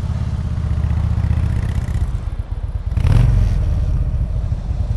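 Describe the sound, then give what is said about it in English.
A Harley Davidson motorcycle, brought to work at NPR, idles with a deep, throbbing low rumble, swelling briefly in a short rev about midway before settling back to a steady loping idle. No one speaks. “All right, so Neil, we have asked one of my colleagues, Paula Olson, who works here at NPR with me, to bring her Harley Davidson to work today.”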